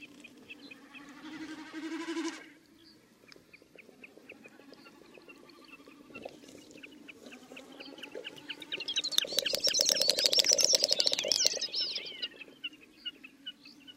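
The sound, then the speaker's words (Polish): A jack snipe's display flight call heard in the background: a rapid, rhythmic, galloping series of dry clucking pulses, faint at first, then swelling loud before fading again. “W tle słychać innego bekasa, krzyka, wykonującego swój lot tokowy.”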